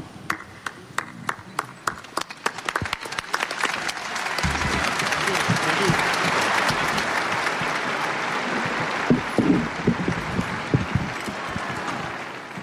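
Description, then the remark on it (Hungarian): Applause from a large outdoor crowd in St. Peter's Square at a morning general audience starts with a few scattered claps, then swells into a steady, dense wash of clapping that carries on throughout, in an open space. “Bár a tapsnak a hangja nem adta vissza, mégis azért elég sokan vettek részt a téren, a Szent Péter téren a mai délelőtti általános kihallgatáson.”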